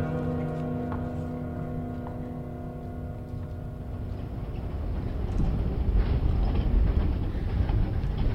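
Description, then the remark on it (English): A train rolls steadily along the rails, a dense continuous rumble with a faint mechanical hum, swelling a little louder in the second half. No one speaks. “I just grabbed the first train leaving town with nothing but the clothes on my back.”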